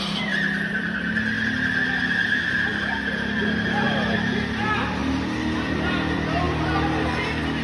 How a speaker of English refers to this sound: A chaotic scene inside a hospital in Austin, Texas, when a car plowed right into the ER. This is what it sounded like as the vehicle slammed into a wall.